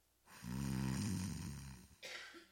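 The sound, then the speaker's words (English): A person mimics a snore with one long, rattling, throaty inhale lasting well over a second, fairly loud, followed by a short breathy catch at the end. “Snore.”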